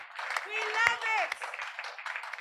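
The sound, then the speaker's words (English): An audience claps steadily for the Lord Jesus for a couple of seconds, a dense patter of many hands, while voices call out and cheer over it. “Clap for the Lord Jesus.”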